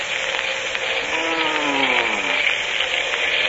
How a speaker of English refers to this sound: There is plane off there, sir. Moving fast this way.